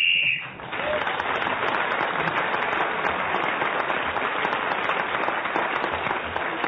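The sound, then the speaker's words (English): A short, shrill whistle blast sounds at the very start, blown to end a round of a panel game while a contestant is speaking, then gives way to loud, sustained applause from an audience that carries on to the end. “Clement Freud was speaking then as the whistle went, so he gained an extra point for doing so,”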